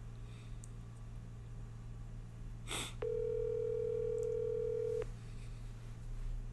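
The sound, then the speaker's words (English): An outgoing phone call ringing on the line: one steady, two-second ringback tone, clear and fairly loud over a constant low hum, preceded by a brief click; the call goes unanswered. No one speaks. “Couple of rings.”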